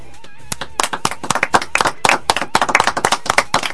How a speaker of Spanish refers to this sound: Así que, si os parece, cerramos el 2008 con un fuerte aplauso y ya damos por terminado nuestro programa de hoy.